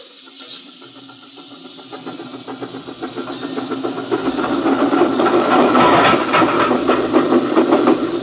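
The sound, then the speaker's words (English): Train number 29, pulling three cars downgrade toward Beekman, rumbles past a train waiting on a siding, its rapid, steady clatter and hissing roar swelling gradually louder and staying strong through the end, with no voices. “Only pulling three cars, and it's downgrade all the way to Beekman.”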